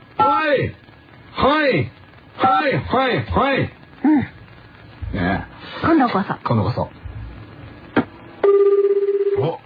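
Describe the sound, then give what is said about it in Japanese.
People chat for several seconds, then the ringback tone of a phone call being redialed late at night starts near the end, a steady, slightly buzzing ring heard clearly on its own as the talk stops. “あ、じゃあ一回聞いてもう一回かけようか。”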